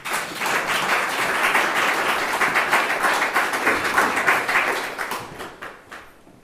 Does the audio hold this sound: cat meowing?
no